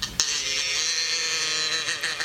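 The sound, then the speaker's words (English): A single long, drawn-out moo from one of the cows Bossie, Bessie and their young Myrtle holds steady for about two seconds, loud and nasal with a rich, buzzy tone, and no talking over it. “Can we hear the cows? Oh, yes. Right on cue.”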